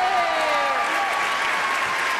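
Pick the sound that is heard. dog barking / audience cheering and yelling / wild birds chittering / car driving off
audience cheering and yelling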